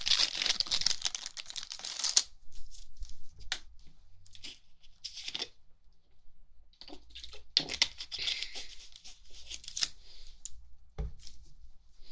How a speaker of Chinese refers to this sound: 让我穿下这个干净的白大褂。